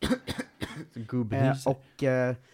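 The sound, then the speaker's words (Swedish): A person imitates a dog with a cold coughing: several short, raspy hacking bursts in quick succession, then a couple of longer, strained, voiced wheezing sounds, fairly loud. “Det är konstigt att hundar får hosta och sånt.”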